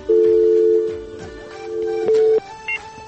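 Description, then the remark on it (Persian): A steady electronic telephone tone hums for almost a second, falls quiet, then returns briefly, like a dial or disconnect tone after a caller's phone call drops from a technical problem. No one speaks. “که از ابو تلفن کرده بود قطع شد.”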